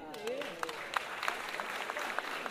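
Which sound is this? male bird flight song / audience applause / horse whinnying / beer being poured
audience applause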